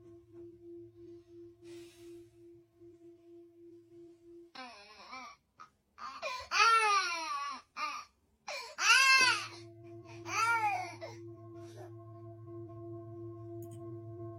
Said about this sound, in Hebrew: הסתכלו את זה. תינוק בוכה ומשמיעים לו קערה טיבטית.